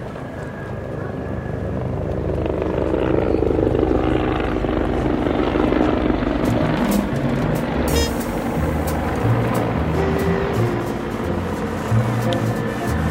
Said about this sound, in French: Il y a trois hélicoptères qui ont tourné autour du site et qui sont en train de se poser aussitôt.